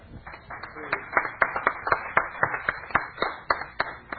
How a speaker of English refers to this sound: Give him a cheer.